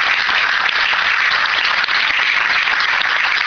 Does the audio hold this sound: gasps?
no